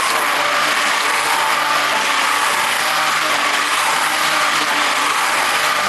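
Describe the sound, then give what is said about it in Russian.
A kitchen blender runs steadily for several seconds, blending a soup with melted processed cheese, a loud, continuous high-pitched whir with a dense hiss and faint harmonic hum underneath, no voices. “И теперь мы берем любимый блендер.”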